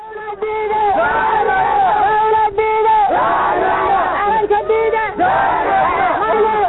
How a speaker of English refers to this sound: Shortly after Monday's session ended, Mogadishu residents gathered to show support for the prime minister. The crowd called on the Somali parliament to return and quickly approve the appointed ministers.